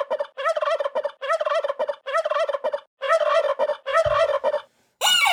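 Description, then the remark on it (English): A turkey named Big Fatty gobbles loudly, five rapid warbling bursts in quick succession, followed by a brief high-pitched squeak from a chicken right at the end. No one speaks. “You awaken that squeaky chicken with that, that gobble wobble, squabble.”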